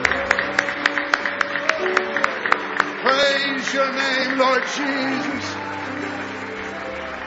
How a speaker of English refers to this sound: Let's clap our hands. Let's give him a wonderful clap offering.